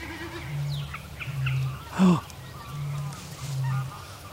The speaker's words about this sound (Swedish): Och så just det här att det kommer och går som i vågor hela tiden. Antagligen allt efter hur den vrider stjärten och hur det här ljudet uppstår av luftmotståndet när den spänner ut stjärtpennorna.